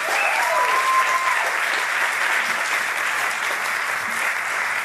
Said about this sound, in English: And let's give us all a huge round of applause.